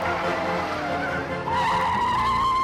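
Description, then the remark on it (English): Claw's getaway truck roars along loudly, its engine churning steadily, then a sustained tire squeal rises partway through as it swings sharply onto a bridge near the Riverton city limits. “Near the Riverton city limits, Claw's getaway truck turns onto a bridge.”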